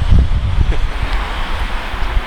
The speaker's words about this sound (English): I know you hear all this traffic going by, right?